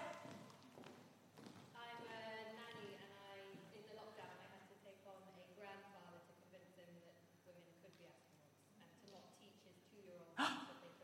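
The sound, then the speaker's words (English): Audience members at the front of a live event let out audible gasps amid a murmur of indistinct voices, with a sharp knock near the end. “Okay, so if you didn't hear that up the back, yes, oh, there was some gasping down the front.”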